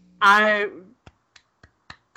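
A short, loud vocal exclamation gives way to a person clapping: five crisp, evenly spaced claps at a slow, steady rhythm, each sharp and separate, with silence between them.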